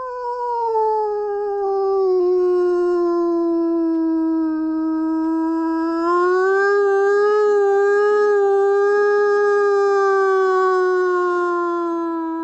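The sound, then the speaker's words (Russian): A person imitates a wolf howl: one long, unbroken mournful tone held for about twelve seconds, wavering slightly and rising in pitch partway through, loud with nothing else audible. “Ваба – это вой, когда человек имитирует звук.”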